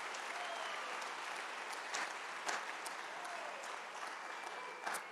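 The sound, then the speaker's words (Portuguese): A crowd applauds for Jesus with dense, continuous clapping, a few sharper claps standing out now and then. The sound is sustained and even throughout, with no talking over it. “Glória a Deus, dá um aplauso para Jesus aí.”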